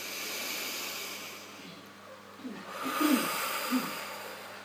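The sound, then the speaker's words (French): A deep, slow breath taken as a three-stage energizing breathing exercise using the belly, chest and upper shoulders: a soft airy hiss drawn in at the microphone that swells, followed by a fuller, louder exhale with slight nasal rasp, heard alone. “Respiration dynamisante avec notre ventre, notre torse, le haut de nos épaules.”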